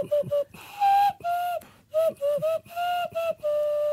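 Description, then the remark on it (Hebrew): A breathy, hollow whistle blown through cupped hands and thumbs plays a short tune of about eight notes, rising and dipping in a bouncy rhythm, loud with no talking. “זה נגינה על הגודלים.”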